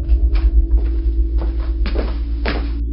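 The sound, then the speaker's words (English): A few scattered knocks and scrapes, like a door being felt for and pulled open, sound over a steady low rumbling hum, with no one speaking. “We just have to find the door.”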